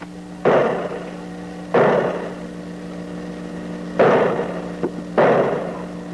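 Four heavy knocks on the wooden door of a house, spaced unevenly with long pauses between them, each a solid thud with a short ring. A low steady hum runs underneath.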